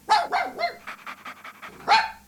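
A dog barks in a quick burst of three sharp barks, followed by a stretch of rapid rhythmic panting, then one more loud bark at the end.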